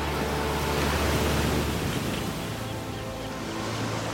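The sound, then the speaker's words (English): Sea waves wash onto a wide beach of pebbles and sand, with surfers about, in a steady, continuous roar of surf, with a deep rumble that eases after the first couple of seconds. No voices are heard. “I'm sure just around this corner, we're going to have the grand reveal of the sea.”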